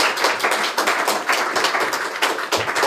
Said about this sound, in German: Ihr dürft auch gerne klatschen.